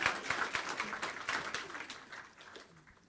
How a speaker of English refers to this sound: Can we give him a sense of how important he is with a rousing round of applause?